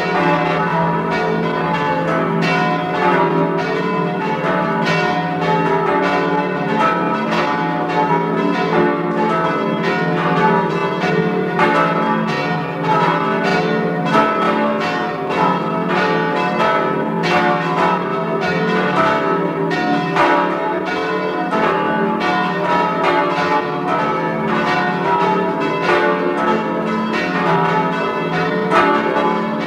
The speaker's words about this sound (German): Es ist 12 Uhr. Sie hören die Glocken der Pfarrkirche St. Margarethen in Buch bei Jenbach in Tirol.